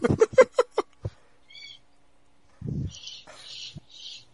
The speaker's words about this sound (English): Even your bird agrees. I hear him calling back. Yeah, that's how angry they are about this conversation. The bird was seriously offended by this.